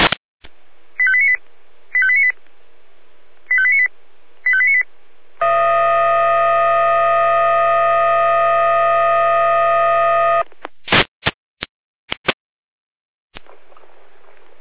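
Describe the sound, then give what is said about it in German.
Fire brigade radio alerting from the Jena control centre, calling out the Frauenbriesnitz fire brigade to a water ingress: a quick sequence of short electronic beeps, then a loud, steady siren-like alert tone held for about five seconds, ending in a few sharp radio clicks. “Leitstelle jeder mit Alarmierung.”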